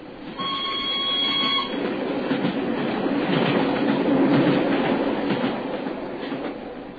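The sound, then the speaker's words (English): A single carriage of a special train thunders past at Canterbury with a heavy, continuous roar and rattle that swells to a peak midway, then eases off. Brief high whistling tones ring out at the start. No one speaks. “As we hid behind a pile of luggage at Canterbury, we saw the single carriage of the special go thundering past us.”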